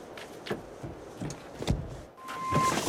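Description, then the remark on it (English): Quick footsteps hurry across a hard surface at a steady pace as a woman runs excitedly out of a petrol station shop with a carrier bag in her hand, with a short electronic tone near the end and no talking. “runs excitedly out of the shop with a carrier bag in her hand.”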